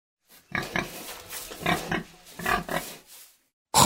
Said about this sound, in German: Das ist das Schwein.